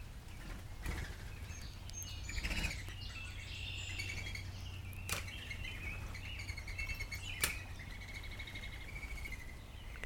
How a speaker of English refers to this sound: We are out in nature today, joined by countless birds. I hope you can hear them.